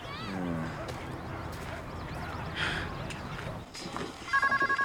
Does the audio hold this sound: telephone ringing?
yes